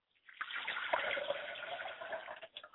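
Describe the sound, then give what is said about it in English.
Water is poured out as a libation in a steady, splashing stream for a couple of seconds, fairly loud, then tapers off with a few final drips. “I pour libations to the north, and I call on the Honorable Elijah Muhammad to come back to the Nation of Islam to make his appearance, and I say Ashe.”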